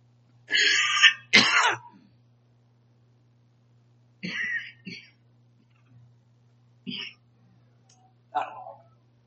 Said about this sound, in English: As a complete sidebar, guys have known about my cough for a long time. This one's going to be real, so we're just going to have to take a moment here.